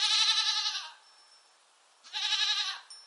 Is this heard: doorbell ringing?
no